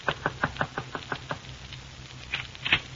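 A quick run of about seven or eight sharp raps on a door at exactly 9:10, evenly spaced, then a pause and a couple more scattered knocks. No voices.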